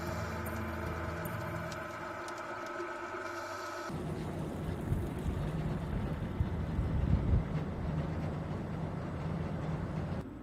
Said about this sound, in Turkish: Şimdi sıra ağa uygun şekilde yukarıya çıkarmada. Ağa dolanma ve akıntıya kapılma gibi tehlikelere karşı dikkatli olmak gerekiyor. Titiz bir çalışmanın ardından ağa bağlanıyor ve vinç yardımıyla çıkarılıyor.